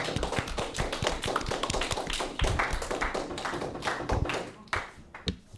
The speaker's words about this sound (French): Un applaudissement chez vous pour leur présentation.